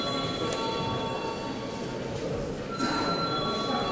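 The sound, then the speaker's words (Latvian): A voting bell rings continuously in a parliament chamber as deputies are called to vote on a bill in its second and final reading, a steady, loud electric tone with a bright metallic ring that holds without pause over a low background murmur. “Lūdzu zvanu.”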